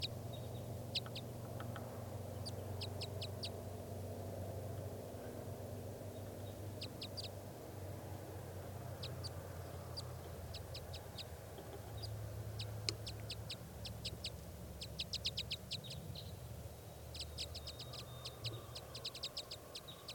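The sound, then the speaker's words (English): Wild birds perched in a tall spruce trade short, high chirping calls in quick bursts, clusters of sharp notes answering one another over a steady low rumble of wind or background noise, then take off to the north. “The wild birds calling back and forth to one another now, and they just took off far to the north.”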